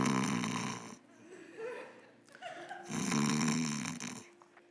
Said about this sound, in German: Ich kann mir vorstellen, dass Petrus auch geschnarcht hat, wie ich schnarche.